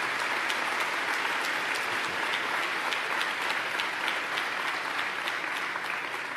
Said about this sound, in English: Let's give them all a great big round of applause.